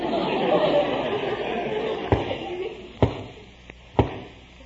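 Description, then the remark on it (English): Three slow, heavy knocks on a door land about a second apart, each a sharp thud, after a low rumble of thunder fades down. “Sounds like a knock on the door.”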